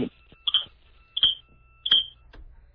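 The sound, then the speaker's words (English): A fire alarm going off in the background beeps three times in a steady rhythm, each beep short, shrill and electronic, over a low background hum, with no one talking. “Is that your fire alarm going off in the background?”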